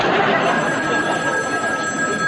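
telephone bell ringing

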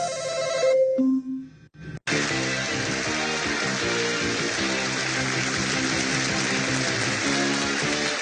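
game show buzzer

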